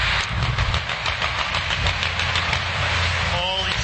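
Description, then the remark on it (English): Military-style helicopters in a joint military and police training exercise roar overhead above the 395 downtown, their rotors producing a steady, rapid thumping over a loud, broad engine drone that continues throughout, with a brief rising whine near the end. “It's a joint military training exercise involving local police, also military, as someone shot some video of some of these choppers, military-style choppers, flying over 395 in downtown.”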